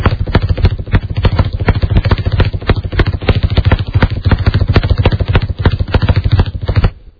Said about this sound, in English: Here's the sound of my heartbeat.